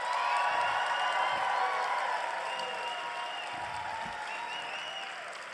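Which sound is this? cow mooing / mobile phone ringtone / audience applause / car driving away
audience applause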